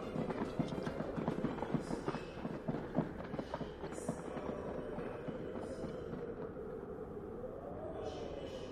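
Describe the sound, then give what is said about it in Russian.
An impatient horse of a knight's retinue strikes its hooves in a quick, uneven run of sharp clops during the first half, over a steady background rumble that carries on after the hoofbeats fade. “нетерпеливый конь копытом бьет и золотые удила грызет.”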